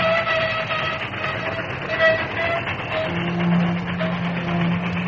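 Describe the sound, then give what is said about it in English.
A train rushing down a grade rumbles along loudly and steadily as its engineer frantically applies the brakes, its roar mixed with high metallic squealing tones like brakes grinding, and a low sustained horn-like drone joining in partway through. “Frantically, he applied the brakes.”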